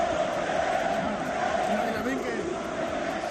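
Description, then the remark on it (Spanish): Thousands of football fans chant in unison at the RCD Stadium in the first minutes of a match against Egypt, singing "Musulmán el que no vote": a dense, steady roar of many voices with a sustained sung tone running through it, loud and continuous throughout. “El encuentro se ha visto ensombrecido en los primeros minutos por este cántico de miles de aficionados.”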